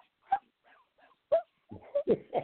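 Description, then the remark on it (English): A person imitates a big dog with a run of short, sharp barks, at first spaced apart and then a quicker cluster of three or four loud yaps at the end, with a few softer whimpering sounds between. “Bark like a dog.”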